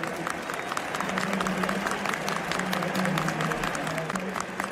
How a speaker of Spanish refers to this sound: Ovación para Luka Modric cuando se retiraba del terreno.